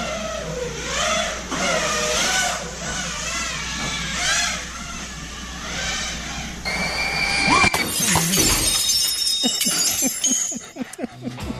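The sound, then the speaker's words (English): A drone's whining, buzzing motor rises and falls for several seconds as a man flies it out of control in his backyard, then a loud crash bursts out as it goes through the glass sliding door of his home, followed by scattered tinkling and clattering fragments. “He doesn't have control of his drone and goes right through the sliding door of his beautiful home and smashes into his house. I've got just the sound.”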